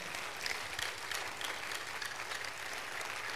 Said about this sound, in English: Stand to your feet. Thank you, Jesus. Glory to God. Give Jesus the biggest clap offering. Amen.